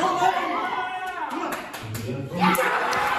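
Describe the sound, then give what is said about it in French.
A crowd of Starbucks employees cheers and shouts with joy at night in two branches in the northeastern United States after voting to create a union, excited voices overlapping loudly while scattered clapping runs through the whole burst of celebration. “Vous entendez là les cris de joie des salariés cette nuit dans deux succursales du nord-est des États-Unis.”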